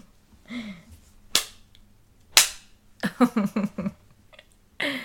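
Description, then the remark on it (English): A small whip, like a horse whip, cracks twice, each a sharp, loud snap about a second apart, with brief voiced sounds before and after the strikes. “And this little, I'd say it's like a horse whip because it is small, but it still does the job.”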